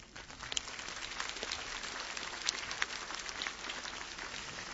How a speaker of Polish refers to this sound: Serdecznie was pozdrawiamy. Możecie oklaskiem krótkim się powitać.